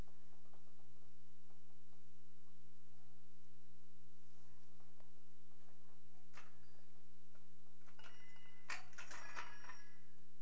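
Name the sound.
clock ticking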